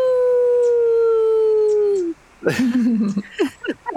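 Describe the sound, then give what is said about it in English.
A person imitates a wolf howl: one long, steady, loud note that sags in pitch at the end, followed by a few short, breaking yelps and yips. “And I close my eyes and try to, like, reconnect with that part of myself to make, like, a wolf howl for him.”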